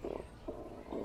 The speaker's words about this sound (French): Oh! C'est mon ventre qui fait ça! Oh oui! Mon ventre aussi fait du bruit comme ça quand il a faim.